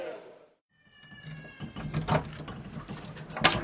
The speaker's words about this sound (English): A pharmacist opens a door to a cupboard full of small white plastic containers at the clinic in Ekwandeni. It's the door to life.